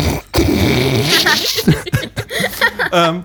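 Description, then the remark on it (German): A voice imitates the loud, greedy chewing of someone who stuffs a whole toast into their mouth in one bite: wet smacking, munching and grunting noises in irregular bursts, with a few breathy, laugh-like sputters mixed in. “guckt das Toastbrot an und greift sich das gesamte Toastbrot und steckt es sich mit einem Haps im Mund und kaut.”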